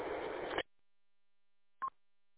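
A burst of hissy phone-line noise cuts off abruptly, followed by silence and then one short, mid-pitched electronic beep as a phone call switches over, while driving down 75. No one speaks.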